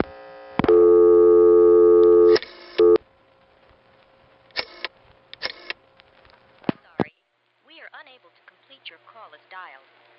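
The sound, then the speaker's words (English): A loud, steady telephone tone sounds for nearly two seconds after dialing 311 from a friend's phone, followed by a few short clicks and tone bursts, then a recorded voice begins speaking over the line. “My friend Neil had a phone that looked just like mine, but if you dialed 311 from his phone, something different happened.”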